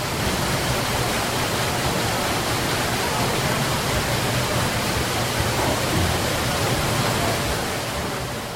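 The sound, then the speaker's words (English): Loud, steady rush of water pouring and churning at the giant water wheel powering Dunkirk Mill, a dense continuous roar that stays constant throughout without pauses. “Because as I see here, it's this giant water wheel. It seems to be water-powered.”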